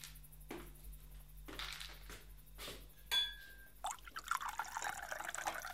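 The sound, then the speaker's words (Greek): Ouzo splashes and trickles into glasses in several short, separate pours, with a brief glassy clink partway through, then a steadier, busier liquid sound. Fairly quiet, with no voices. “Κυρία Λίτσα, ακόμη τρία ούζα.”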